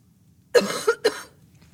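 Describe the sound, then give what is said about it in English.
A fairly loud cough in two quick bursts, a harsh rasping hack followed by a shorter second one, with no talking around it. “Sorry about the cough.”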